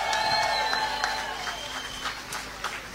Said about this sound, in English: We have to thank them. Let's do a very big round of applause for the African Center.